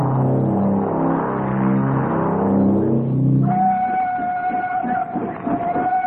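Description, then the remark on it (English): A locomotive engine approaches slowly, rumbling with a deep, pulsing chug, then a long steady whistle sounds over the continuing rhythmic churn, loud, with no one talking. “As prearranged, the engine came into view moving slowly.”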